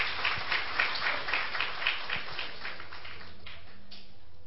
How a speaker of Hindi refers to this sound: ओम शांति। बहुत अच्छे से ताली बजाकर बहन जी का धन्यवाद करेंगे।